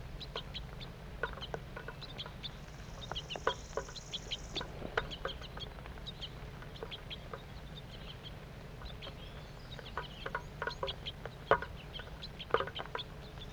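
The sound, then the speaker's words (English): A small flock of birds, two juveniles and two adults, feeding, with scattered short chirps and soft clucking calls repeating irregularly over a steady low rumble, no voices. “Two juvenile birds and two adults. Stop. Start recording. Feeding's now occurring.”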